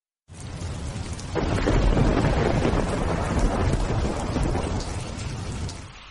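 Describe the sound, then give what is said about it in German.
A loud thunderstorm with steady heavy rain and rumbling thunder, swelling in intensity after a quieter start, with wind buffeting throughout and no voices. “Wind und Donner werden immer lauter.”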